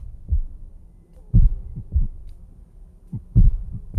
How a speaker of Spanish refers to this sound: Imaginaos que lo que sería además el sonido subacuático de una ciudad submarina, con ruido constante de maquinaria... Imaginemos turbinas, crujidos de las estructuras, el bombeo del oxígeno